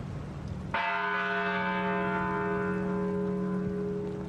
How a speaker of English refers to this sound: In many communities, bells tolled 26 times in honor of the children and educators who were gunned down at the Sandy Hook School. That was at 9:30 this morning.